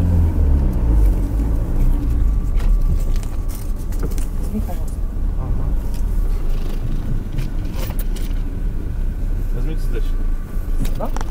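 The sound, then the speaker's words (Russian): A steady, loud engine drone and road rumble fill the interior of a moving minibus (marshrutka) carrying commuters to work, with muffled, indistinct voices talking over the continuous hum. “Поэтому на работу и …, и … добираются на маршрутке”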